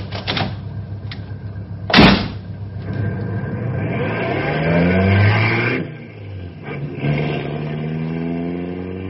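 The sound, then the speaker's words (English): A car door thuds shut, then a car engine starts and revs up, accelerating as the car pulls away, its rising whine fairly loud, with no one speaking. “Okay, hop in. We'll take a look.”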